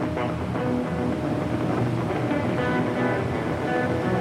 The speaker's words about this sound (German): Der Motor beginnt zu stampfen und zu röhren, das Schiff legt ab.